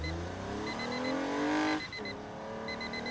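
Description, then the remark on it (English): A new Toyota car's engine revs steadily upward in pitch while cruising the open road, dips briefly as if shifting gear, then climbs again, loud, with a quick high beeping chiming repeatedly over it. “That's me awakening after a long winter's nap, cruising the open road in my new Toyota.”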